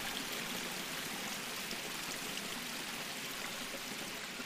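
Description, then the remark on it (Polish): A small stream pours steadily over a weir, a continuous bright rushing and gurgling of water that holds an even level throughout, with no voices or other sounds. The weir holds water back for retention, widening the water surface above it. “Za zastawką widać, że ten strumyk ma taką samą szerokość, jaką miał.”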